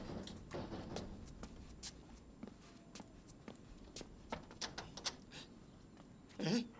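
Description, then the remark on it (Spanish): Someone bangs on a door with a string of sharp, irregular thuds, fairly quiet, ending in a heavier, louder burst of pounding. “Mira a ver quién está aporreando la puerta.”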